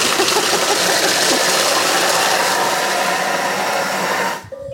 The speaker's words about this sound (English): when you blend something in a blender, it all kind of goes up the sides